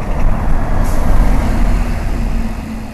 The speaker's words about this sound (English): Tech Liminal is wedged between a tattoo shop and a fabric store on 14th Street near Alice. Outside, homeless men ask for change and the 26 bus zooms by on its way to Emeryville.